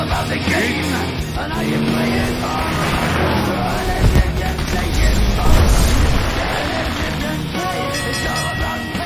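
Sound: race car engines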